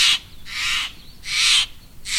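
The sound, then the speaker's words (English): A big blue Steller's jay gives a series of four loud, harsh, raspy calls in a steady rhythm, each a rough grating squawk, with no talking. “Picture yourself holding a big blue Steller's jay.”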